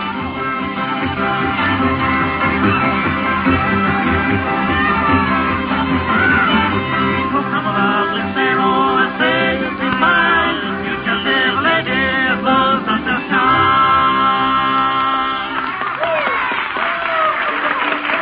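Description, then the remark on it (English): A string band plays a lively tune throughout at a sociable at a schoolhouse, steady and fairly loud, with a big crowd murmuring and some clapping mixed in around the music. “That's the … over there playing.”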